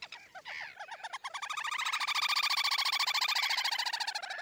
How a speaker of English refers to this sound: One of the joys of sitting by almost any patch of shallow water in England is to hear the comforting trill of a distant little grebe.